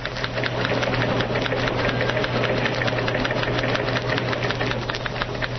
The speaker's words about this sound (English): Let us turn on a microphone in the newsroom and hear the clatter of typewriters as news programs are rewritten. Again, you will hear in the background Press Association teletypes.